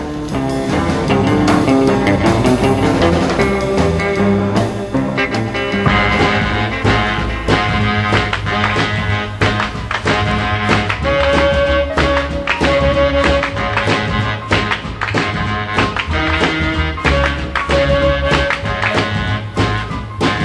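A recorded song plays loud and steady throughout, with a driving rhythmic beat, bass, and sustained instrumental tones filling the mix; no one talks over it.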